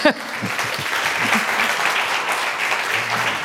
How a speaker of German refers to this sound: Ja, kommen Sie. Erstmal ein Applaus für die Dame.